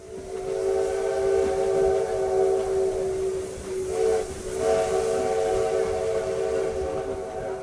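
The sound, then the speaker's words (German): A restored old Union Pacific-type steam train's whistle blows in a long, steady tone over the hiss of steam and the rumbling chug of the engine, loud throughout, with no voices, on a short railway journey to Tiradentes station, Brazil. “Vor der geschichtsträchtigen Kostprobe steht eine kurze Reise mit der Eisenbahn.”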